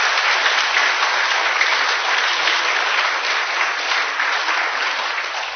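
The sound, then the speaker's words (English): An audience claps steadily for several seconds, a dense, even wash of many hands with no voices rising above it, holding at a fairly loud level before easing slightly at the end. “How about we'll give these folks a round of applause because of the work that they've done.”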